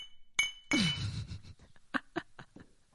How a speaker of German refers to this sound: Unser Podcast-Baby ist 1 Jahr alt geworden. Darauf stoßen wir nochmal an, ja. Warte. Kling, kling.